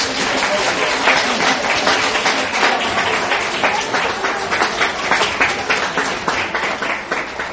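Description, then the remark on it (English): A church audience applauds the children for their presentation, a dense, even wash of many hands clapping at once for several seconds, staying loud and sustained without a break. “Why don't we give them another round of applause?”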